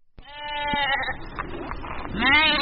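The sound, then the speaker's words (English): Sheep bleat loudly on a hilly farm in Pyeongchang, Korea, 80 miles east of Seoul, with two or three wavering, quavering calls overlapping one another, one rising strongly near the end, and no one talking. “tends sheep on a hilly farm where he was born in Pyeongchang, 80 miles east of Seoul.”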